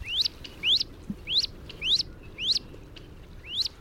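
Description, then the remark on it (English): A duckling peeps again and again, six thin rising cheeps at a steady, evenly spaced pace, clear over a soft, low outdoor background hum, from a brood of about a dozen ducklings with their mother duck crossing a pond. “It's a good bet that the mother duck has at least one, and maybe more, foster ducklings in tow.”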